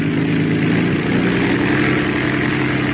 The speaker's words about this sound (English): Well, the engine's doing as well as you can expect in this weather.